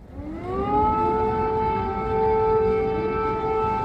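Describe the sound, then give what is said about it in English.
An air raid siren winds up in pitch and then holds a loud, steady wail without a break over a low rumble of background noise, heard in a metro station in central Kyiv, Ukraine, used as a bomb shelter, as many people head down into it. “There is an air raid siren that just went off, and lots of people are now heading down into this station, which is used as a bomb shelter during air raid alerts.”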